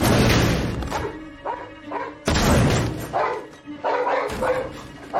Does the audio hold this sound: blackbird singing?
no